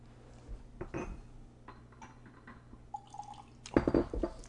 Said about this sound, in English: Let's Let's give it the water test now and see what happens with just a few drops of water.